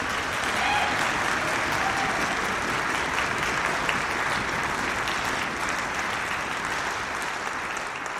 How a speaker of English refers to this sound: So can we give a round of applause for those folks?